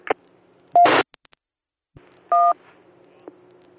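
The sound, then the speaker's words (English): Short electronic beeps and tone bursts from a handheld radio keying up: a brief tone, a harsher buzzy burst, a few clicks, then a steady multi-pitched beep and a faint final blip. No talking. “Well, there at the very end, I could hear you, but at the very first, it was just all I was getting was a single beep.”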